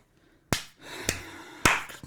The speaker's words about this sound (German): Nur mit einer Hand. Das ist ein Krebs. Das ist Klatschen. Also. Klatschen mit einer Hand. Mit zwei Händen?